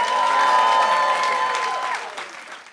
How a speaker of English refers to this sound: Let's get a round of applause as we go to commercial break.